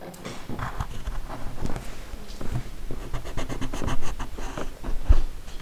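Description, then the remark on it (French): A colored pencil scratches steadily back and forth across paper, going over every line so it prints onto the other side, with irregular rasping strokes and occasional light taps, no voices present. “Voilà, donc maintenant il faut repasser de partout avec le crayon de couleur et ça va s'imprimer de l'autre côté.”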